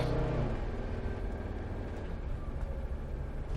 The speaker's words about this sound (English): So far, the traffic has been moving pretty well. Car is running great.